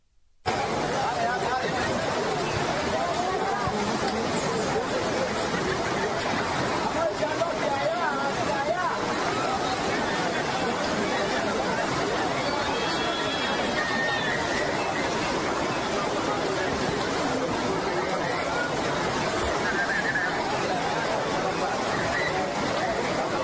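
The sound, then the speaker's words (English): A large crowd of migrants crossing the Darien Gap chattering at once, many overlapping voices blending into a dense, steady murmur with no single speaker standing out, holding the same loud level throughout. “Just as an example, check out this crowd of illegals crossing the Darien Gap.”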